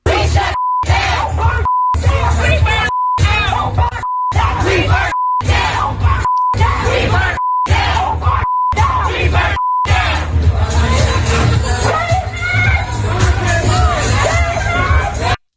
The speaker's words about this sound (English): So they were yelling at the customers, screaming at the customers, and then chanting. And there's an army of them. We have to bleep it out.